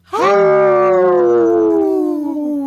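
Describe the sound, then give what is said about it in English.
A single strong, sustained wolf howl rises sharply then holds a long, slowly falling tone, loud with rich harmonics, with no talking. “Hey, that was a strong howl.”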